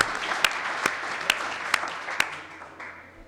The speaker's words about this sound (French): je pense que malgré tout on peut l'applaudir parce que c'était aussi une très bonne collaboration.